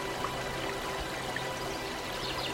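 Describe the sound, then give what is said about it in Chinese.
Water trickles and pours steadily in a small stream, a continuous babble of liquid with faint bright droplet sounds and a low steady hum underneath, no voices. “一滴水缓缓滴下，成涓涓细流。”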